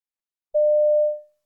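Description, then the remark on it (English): A single steady electronic telephone tone sounds once, lasting under a second and fading out at the end, clear with no voices, as a man rings a sports shop. “You overhear a man ringing a sports shop.”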